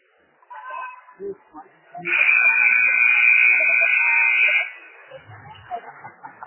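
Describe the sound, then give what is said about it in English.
A loud, steady electronic buzzer sounds in error for about two and a half seconds as the second half of a game between Delta and the Cardinals is about to start on the court, cutting in abruptly and stopping just as sharply, with faint crowd murmur before and after. “Ames to Porter to start the second half, and an errant buzzer as Delta will have starters back on the court, as will the Cardinals.”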